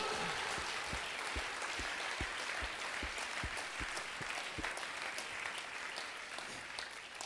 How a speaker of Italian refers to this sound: Vogliamo fare un applauso a Gesù?